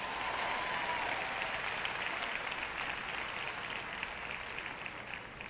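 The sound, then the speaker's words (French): An audience applauds during a sermon, a dense wash of many hands clapping at an even, sustained level for several seconds, tapering slightly toward the end, with no voices standing out. “Quelqu'un devrait applaudir parce que je prêche bien aujourd'hui.”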